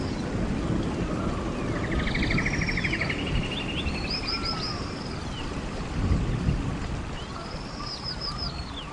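A deep, steady rumble of thunder rolls through the whole stretch, swelling slightly near the end, while birds chirp and trill faintly above it. No one speaks.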